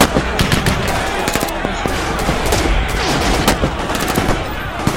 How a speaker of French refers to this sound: une pluie de coups de feu.